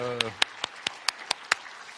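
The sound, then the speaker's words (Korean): A brief voice gives way to about seven sharp, evenly spaced claps in a steady rhythm as a church audience applauds to welcome a newly registered member after a prayer, clear. “박수로 환영하시겠습니다.”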